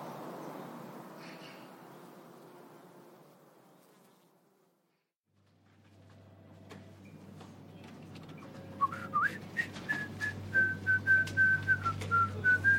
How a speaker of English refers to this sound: whistled a lively medley of sitcom themes as he walked past his underlings in their cubicles and stepped into his luxurious office, fully a third of the single-story building's floor space, at the far end.